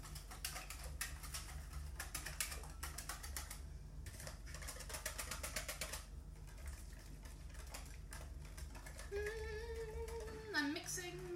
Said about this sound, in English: Great listening, especially with a dishwasher going like that.